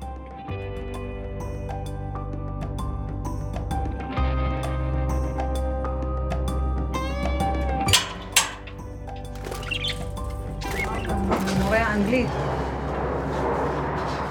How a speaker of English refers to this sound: The noise we're hearing, it's, you said it was the airplane. All the time. We hear it all the time. It's the army. Yeah, the army.